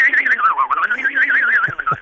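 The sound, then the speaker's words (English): A voice imitates a tire spinning while stuck in mud, humming and whistling at the same time in a steady whine whose pitch wobbles rapidly up and down, ending with a couple of brief low bumps. Performed by a sound effects man for A Prairie Home Companion. “And then if you want a tire stuck in the snow or dirt, down in Georgia, where I came from, it would be mud.”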